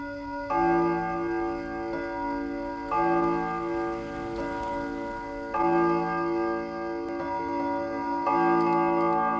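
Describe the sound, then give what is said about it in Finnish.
A clock strikes four o'clock at night with four resonant strokes, each ringing out and slowly fading before the next, with a faint ticking underneath. No one speaks. “Kello oli lyönyt 4. Yöllä.”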